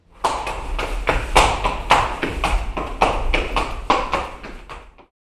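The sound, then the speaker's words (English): Horse hooves clip-clop at a steady trotting rhythm on a hard surface, fairly loud, over a low continuous rumble like carriage wheels rolling along: two horses pulling the carriage of the first London bus. “This is the first London bus. Two horses pulled the carriage.”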